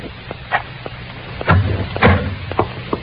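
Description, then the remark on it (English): A door being opened: a series of sharp latch clicks and rattles, with two heavier low thumps in the middle, over a faint background hiss and no talking. “Now open the door, Ruth. Hurry.”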